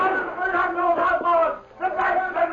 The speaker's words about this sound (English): Dan Reed, teenage nephew of the Lone Ranger, left the general store in Hayville early one morning with supplies and walked toward the hitch rack. Suddenly, he was startled by shouts and gunshots.